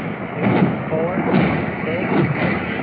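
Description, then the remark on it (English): Rocket and bomb explosions from an air attack by a low-flying aircraft firing rockets and dropping a bomb, a series of muffled, rumbling booms arriving every second or so over a dense, noisy background, with faint voices underneath. “Let's hear how many explosions we hear.”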